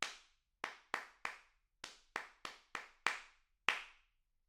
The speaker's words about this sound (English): I shall count the pulse and then clap a rhythm. You clap it back immediately after you hear it.